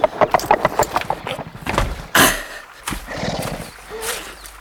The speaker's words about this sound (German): Endlich, bei Einbruch der Dämmerung, vernahmen sie den Hufschlag Hatatitlas.